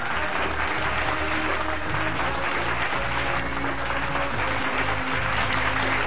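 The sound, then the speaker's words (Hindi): Loud, sustained applause from an audience welcoming Alka R Sharma, deputy commissioner of the Shahdara South zone of the Delhi Municipal Corporation, onto a programme, a dense steady wash of many hands clapping for about six seconds without a break, with no voices standing out above it. “जोरदार तालियों के साथ उनका स्वागत कीजिए।”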